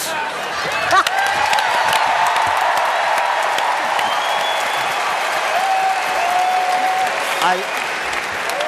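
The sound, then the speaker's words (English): A large audience applauds steadily, a dense wash of clapping that holds at an even, loud level for about nine seconds, with faint cheers and voices mixed into the crowd noise. “they might be applauding for the truth.”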